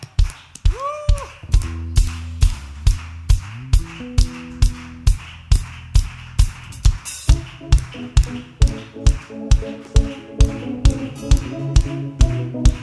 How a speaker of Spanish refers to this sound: Bien fuerte tu aplauso a Jesús. Aleluya.